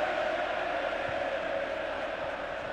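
A stadium crowd of Atalanta football fans roars as the ball is cleared into touch, in a dense, continuous wash of cheering that holds steady and fairly loud throughout, with no single voice standing out.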